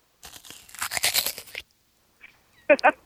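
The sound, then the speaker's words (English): Crisp crunching from bites of a juicy apple: a sustained stretch of crackly chewing, a brief pause, then a faint crunch followed by two loud, sharp bites. “So, I mean, I would actually enjoy like the apple crunching or something like that.”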